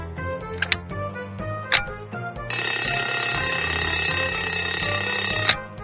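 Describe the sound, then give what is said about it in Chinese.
A few sharp clicks, then an alarm clock with a newly replaced battery bursts into loud, continuous ringing for about three seconds before cutting off, over a low steady background. “没想到闹钟没响”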